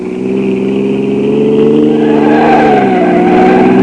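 A car engine roars and revs steadily, its pitch climbing as the vehicle speeds through the streets, loud throughout with no other sounds.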